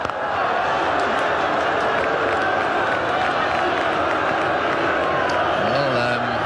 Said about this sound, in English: Booing going on here, but I really don't think they know what's happening. They don't understand that this is working for the Australians in the next round.